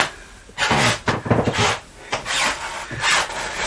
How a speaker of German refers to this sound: Eben hat es mehr geknarrt. Da kommt doch auch, wo du lang gehst. Ja, eben war ich doch genau hier. Oh Gott, ob das später in unserem Haus auch so sein wird, dass man das so knarren hört, dass die Leute, die unter uns sind, immer hören, wenn du da